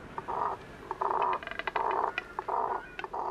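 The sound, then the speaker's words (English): Double-crested cormorant giving a series of hoarse, guttural croaks, about five grunting bursts in an uneven rhythm, each rough and buzzy with short clicks between them. No one speaks. “Why do they have such a limited and guttural vocal range when many birds create glorious songs?”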